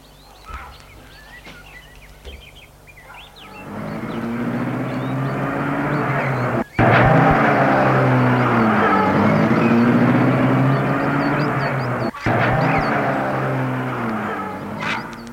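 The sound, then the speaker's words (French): After a few seconds of quiet, a car engine rumbles up loudly, its pitch rising and shifting as the car drives away, holding steady before easing slightly toward the end. “Il a regardé la voiture s'éloigner.”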